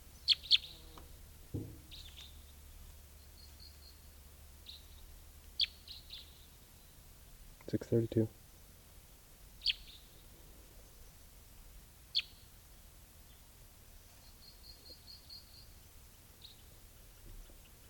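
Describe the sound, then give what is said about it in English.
A wild male bird sings in sparse, high-pitched chirps and short rapid trills, separated by pauses over a low steady hum, with a brief sharp knocking burst partway through. No one speaks. “Here's the wild male who is singing.”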